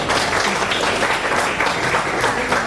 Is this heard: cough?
no